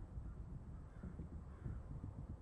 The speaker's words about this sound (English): Do you hear the raven?